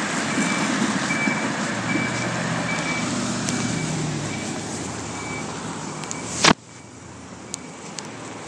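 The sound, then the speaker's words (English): A heavy low-floor bus with snow chains on its rear wheels labors and roars as it tries to get traction, water almost up to the bottom of its floor, a steady strained drone with a faint intermittent beeping tone, then the noise cuts off abruptly near the end. “And even with the bus, it's a low floor bus, the bus is trying to get traction.”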